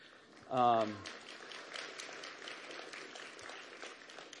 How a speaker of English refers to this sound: I really hope those applause were for her because she deserves it, man.